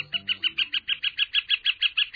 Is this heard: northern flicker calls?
yes